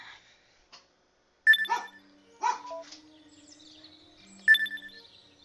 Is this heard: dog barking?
yes